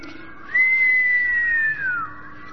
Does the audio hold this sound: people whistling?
yes